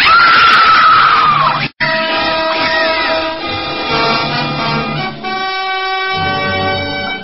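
Loud, piercing screaming rings out from a room upstairs, sustained and wavering in pitch, with a brief break after a couple of seconds before it resumes and carries on without any talking.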